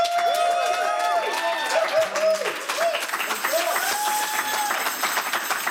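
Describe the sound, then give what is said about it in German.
An audience in Studio 1 applauds a guest musician after an interview, before his live performance, with steady, dense clapping that stays loud for several seconds, with cheering voices and whoops rising above the claps. “Und ich wünsche mir auch nochmal einen Applaus für dich.”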